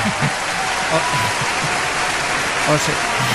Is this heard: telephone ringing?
no